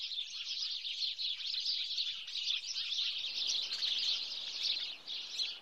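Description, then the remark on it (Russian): A flock of sparrows chirps busily and without pause, many high, rapid tweets overlapping into a steady chatter that stays fairly constant throughout, with no voices. “А Малинка уже смотрела в окно, где на рябине сидела ее тетрадка, и о чем-то беседовала с воробьями.”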